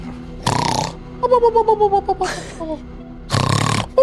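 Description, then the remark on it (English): A person loudly imitates the character Hubert snoring, with three harsh, rasping inhales separated by a wavering, rhythmic whistling exhale, all forceful with no other voices. “And Hubert snores loudly.”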